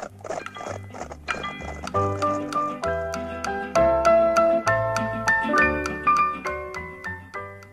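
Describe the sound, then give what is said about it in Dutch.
Horses' hooves clip-clop in a steady, brisk trotting rhythm, clear, over a lively melodic music accompaniment that runs throughout. “Ja, vooruit, mooi, zadel de paarden.”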